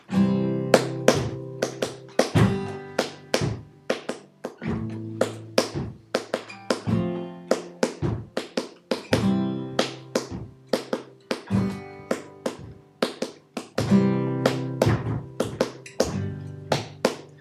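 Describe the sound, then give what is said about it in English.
Steady, rhythmic stomps and claps, the stomping and clapping part of a song, strike in a repeating pattern, sharp percussive hits layered over a low, buzzing pitched melody that shifts notes throughout. “This upcoming here is the stomping and clapping part.”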